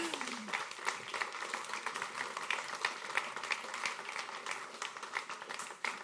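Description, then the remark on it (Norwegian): An audience claps steadily for a group called up to stand at the front, a dense, crackling patter of many hands at a fairly even level, holding for about six seconds before thinning slightly at the end. “Så må dere ha gjerne klapp for dem.”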